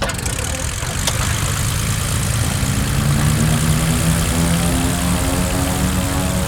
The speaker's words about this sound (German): Kurze Zeit später startete das Flugzeug.